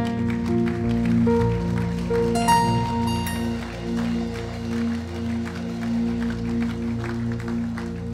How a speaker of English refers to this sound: Come on, let's give God a good praise clap.